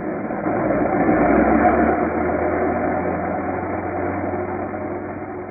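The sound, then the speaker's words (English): Engines of British bombing squadron planes warming up and taking off for a raid, at an aerodrome near Armentières, France, roar in a steady, loud, rumbling drone that swells in during the first half second and holds evenly throughout, with a low throbbing hum beneath and no voices. “Somewhere near Armentières, France, at a British bombing squadron aerodrome behind the lines, Captain Goodwin and Lieutenant Barker are watching the planes of B flight warming up and taking off for a raid on an enemy strong point.”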